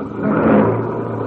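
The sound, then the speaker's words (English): A car engine revs up loudly, swelling briefly before settling into a steady roar as the car pulls away, heading to the circus. No voices are heard. “Jump in the car before Mr.”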